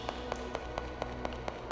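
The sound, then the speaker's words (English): A quick, even run of about eight footsteps, each a crisp tap at a brisk pace, over a steady low background hum with no talking. “The footsteps have suddenly changed in quality ever since I turned this on.”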